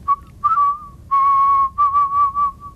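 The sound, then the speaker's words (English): A person whistles a short, tuneful melody with clear, pure notes, some held and some quick with small slides between them, fairly loud with no talking. “I am a whistler, a musical whistler.”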